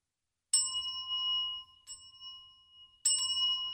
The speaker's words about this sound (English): There he beheld a bell whose string had long since rotted off, the bell whose hand no man or woman had touched in many years. He saw the bell begin to turn, and it began to ring.